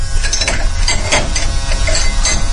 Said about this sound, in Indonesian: Aku pikir ada kucing atau entahlah itu. Yang jelas sangat berisik sekali. Seperti ada suara obeng dan perkakas-perkakas yang ada di garasi yang gerak-gerakan.